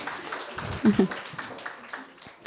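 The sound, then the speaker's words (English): A round of applause from a group for a group of ladies who have just performed, a steady, dense patter of many hands clapping at moderate loudness, with a few voices mixed in underneath. “Thank you, ladies. Round of applause.”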